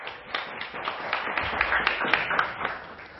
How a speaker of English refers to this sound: Welcome. Round of applause.